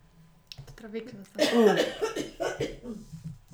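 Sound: cough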